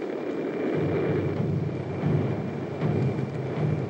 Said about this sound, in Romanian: Dar nu-i tam-tam. Sunt semnale morse. Alfabetul morse bătut într-o tobă de indigenilor.